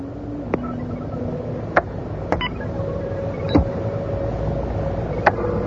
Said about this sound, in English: Is that a small plane? Taken off by the sound of it. Give me a couple more minutes. We'll guesstimate the altitude within a couple hundred feet.